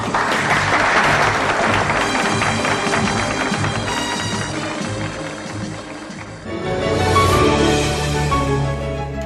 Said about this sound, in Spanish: Nuestro aplauso para usted.